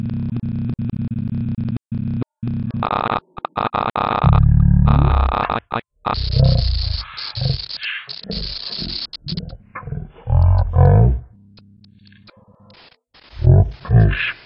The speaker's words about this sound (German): Wie man hört, bekommt man sehr, sehr, sehr viel Screenreader-Feedback. Das kann man ausschalten, wenn man das möchte. Man hört aber auch meine Stimme, die sehr langsam und sehr tief wiedergegeben wird.